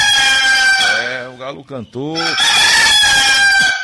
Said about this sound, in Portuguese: O galo cantou, vamos acordar pra vida.